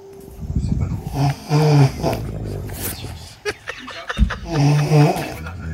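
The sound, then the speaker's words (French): Two people snoring at once, their loud, rasping snores overlapping in an uneven rhythm, with a few sharp snorts breaking through. “Les deux dans le même dortoir.”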